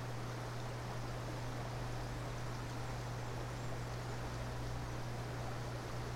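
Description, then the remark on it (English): A slow river flows below a gently sloping bank on a sunny summer day, with a soft, continuous wash of water, steady and unbroken throughout, with a faint low hum beneath it and no voices. “In front of you is a bank that slopes gently down into a slow flowing river.”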